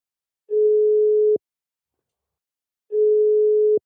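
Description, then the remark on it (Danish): A telephone ringback tone sounds while a call is being placed to the director of the Danish trade association Cirkulær, an expert on waste handling in Denmark: two steady, single-pitched beeps, each just under a second long, separated by a pause of about a second and a half. No one speaks. “Vi ringer til en, som ved alt om håndtering af affald i Danmark.”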